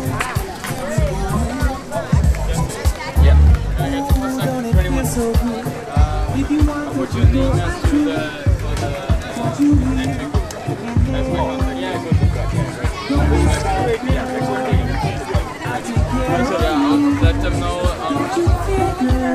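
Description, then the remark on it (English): A lively crowd claps and cheers for passing runners, a steady wash of applause, shouts and overlapping chatter that stays fairly loud throughout with no pauses. “All right, more runners coming through by the sound of things. I hear clapping and cheering.”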